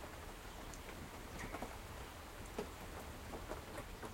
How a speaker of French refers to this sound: Là, déjà, il pleut un petit peu, du coup, ça sent beaucoup les champignons, la terre et tout.